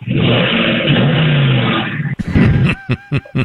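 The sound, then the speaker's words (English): A loud Dodge Challenger rental car engine revs hard, its throaty exhaust from super loud pipes roaring steadily for a couple of seconds before giving way to a few short, sharper bursts of sound. “But I got this Dodge Challenger that has super loud pipes on it.”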